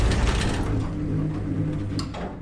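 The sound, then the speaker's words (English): A steady low mechanical hum with rumbling, grinding overtones runs throughout, then a brief clunk near the end as an elevator grinds to a stop and the sound begins to fade. “The elevator stopped.”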